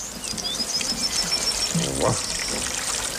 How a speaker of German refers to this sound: Was ist denn das für ein fürchterlicher Platterregen? Oh. Na nu, vorne regnet es ja überhaupt nicht. Pitti! Du hast wohl deinen Verstand verloren. Schnattchen hat gesagt, Pitti soll deine Hütte gießen.